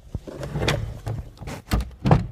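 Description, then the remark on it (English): The door of a closet used as a recording space for NPR's Book of the Day is handled, with a quick series of wooden knocks, rattles and sliding bumps ending in a firmer thud as it shuts. No one speaks. “That's the door to the closet where, for the past however many months, I've been recording.”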